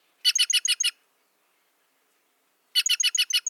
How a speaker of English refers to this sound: The jays' noisy, rasping chatter helps ward off predators and keep their colorful kin together. Listen carefully for their clangorous calls for a chance to glimpse these gems yourself.